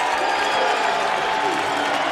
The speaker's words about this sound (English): Looks like the rain has at least slowed down a touch here in Kannapolis as the crowd battling it out gets to their feet and brings the noise.